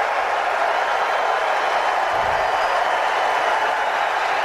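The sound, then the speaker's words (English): A golf tournament crowd cheers for Tiger as he finishes a round of 64, his lowest ever in a major, in a steady, dense roar of clapping and shouting that holds at the same loud level throughout, with no distinct voices standing out. “Listen to that crowd for a golf tournament.”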